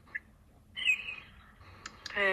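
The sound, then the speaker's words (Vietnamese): A small bird sings in short bursts: a bright whistled phrase, a couple of sharp chirps, then a louder rich trill at the end, with no talking. “có con chim của bên Tiêu nó hót dễ thương quá kìa”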